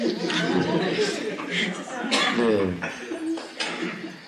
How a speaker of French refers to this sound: Non, je vous comprends, parce que moi aussi, je me réprime de tousser, mais il ne faut pas tousser.